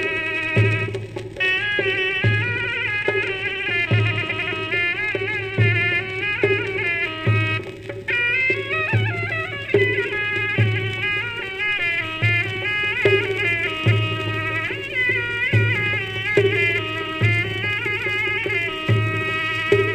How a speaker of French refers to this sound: Enregistré dans les années 30. La Zurna, c'est un instrument à vent auge double qu'on entend beaucoup en Turquie, en Iran également.